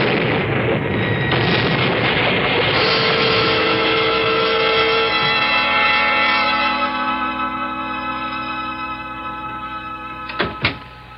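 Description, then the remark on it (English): A loud, broad explosive roar of a cave floor exploding with flame and steam, rumbling on for several seconds, then shifting into a sustained hissing, whistling tone as it slowly fades, with two sharp cracks near the end. “I reached the safety of the passageway none too soon, for suddenly, behind us in the cave, the floor exploded with a roar of flame and hissing steam.”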